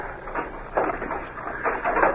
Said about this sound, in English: That evening, the sheriff went to the cell where Deke Bowers had been held in spite of his protests and unlocked the iron door.